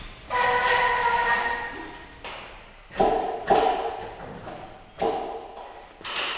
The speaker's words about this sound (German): Er ist gerade dabei, die Melkanlage zum Leben zu erwecken.